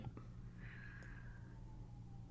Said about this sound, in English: Yeah. Excuse me, sorry. I just yawned there. It's been a lot.